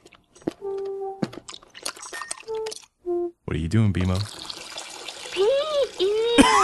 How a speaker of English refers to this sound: Pouring a glass of water. Fantastic! Oh, thank you, Football.